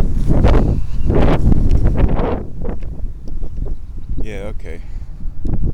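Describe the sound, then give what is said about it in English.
Gusty wind roars and buffets in heavy low rumbling bursts on an outdoor trail, strongest over the first two seconds before easing to a steadier blow, while a man says a few brief words. “Some dog tracks, and some wind.”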